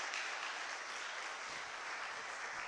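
An audience claps steadily, a dense crackling wash of many hands that stays loud and even throughout, with no voices rising above it.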